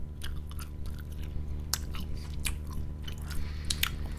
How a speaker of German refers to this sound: Rein damit. Erstmal ein bisschen kauen, erstmal geht's.